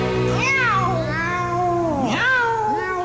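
A cat meows loudly, two long, wavering meows, the second rising sharply before trailing off, over a steady low hum.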